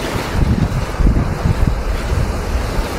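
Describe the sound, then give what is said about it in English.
Strong wind of a severe gale roars and buffets over a rough, surging ocean, a steady loud rush with low gusting rumbles swelling and fading throughout, no voices. “The moos could be heard, the creaks of wood, whoosh of the wind.”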